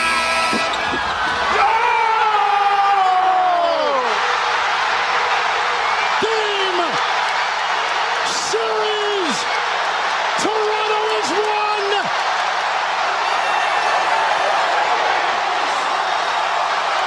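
A huge basketball crowd outside in Toronto roars loudly and continuously after Kawhi Leonard's game-winning shot, a dense wall of cheering with a few rising shouts or horn-like calls cutting through.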